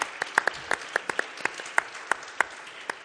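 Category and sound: crowd, audience applause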